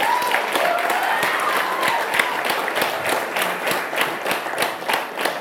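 An audience claps together in a reverberant room, a dense, steady patter of many hands lasting several seconds, with a faint murmur of voices underneath.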